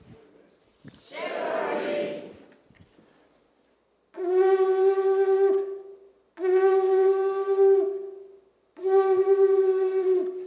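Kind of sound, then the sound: signal or alarm, shofar blast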